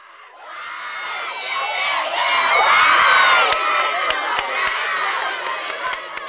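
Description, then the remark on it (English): A large group of children on the white and blue teams cheer and shout together at the waterfront, dueling cheers while waiting for the final leg of a relay race, in a loud, sustained, high-pitched roar, overlapping chants and whoops rising and falling for several seconds with no pause. “Down at the waterfront, the white and blue team stand side by side with dueling cheering, waiting for the final leg of the relay race.”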